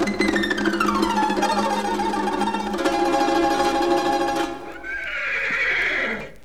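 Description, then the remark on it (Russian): A red (chestnut) horse whinnies loudly, a long quavering neigh that falls in pitch, followed by a shorter, higher whinny that trails off. No one speaks. “Эй, рыжий конь из ноздрей огонь! Встань передо мной, как лист перед травой.”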